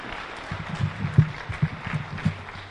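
An audience gives a speaker another round of applause, a steady, dense patter of clapping that holds at moderate loudness, a few sharper claps popping out over the continuous wash. No one speaks.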